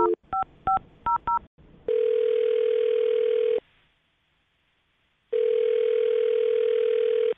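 A rapid series of telephone keypad beeps as a phone number is dialed, followed by a steady ringback tone that buzzes for about two seconds, pauses in silence, then rings again, clear.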